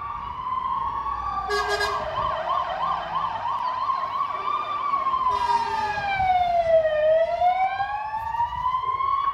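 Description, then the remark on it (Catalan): A fire engine siren wails continuously in Sant Feliu de Codines as five fire crews respond to a house fire on Carrer Hospital shortly after 9 in the morning, its pitch sweeping slowly up and down in a loud wail, with rumbling traffic noise underneath and no one speaking. “És el so que ha alertat moltes persones de Sant Feliu aquest matí. 5 dotacions de bombers s'han desplaçat al carrer Hospital de Sant Feliu per intervenir en l'incendi d'un habitatge.”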